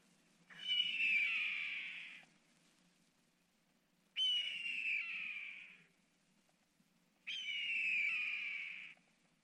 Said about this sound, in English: Red-tailed hawk.